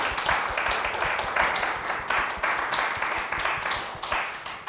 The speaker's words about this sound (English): Well, let us give Sean another round of applause.